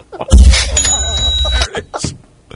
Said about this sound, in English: It actually made a cha-ching. A credit card.